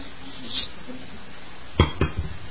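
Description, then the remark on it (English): Someone drinking water from a glass: two sharp glassy knocks near the end, then a few softer small sounds. “Now, put that glass to your mouth. Open your mouth.”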